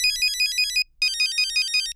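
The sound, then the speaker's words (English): A classic old cell phone ringtone plays loud: bright, beeping electronic tones in a fast repeating melody, a brief pause, then the tune starts again. “Relive the sounds you grooved to back when any cell phone was a cool cell phone. Remember this classic blowing up in the movie theater?”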